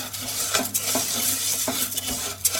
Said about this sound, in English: I pour in several pounds of crawfish tails at this point. And I work it around until my sauce is perfect.